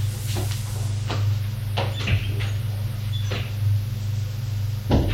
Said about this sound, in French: Ils vont ouvrir la porte.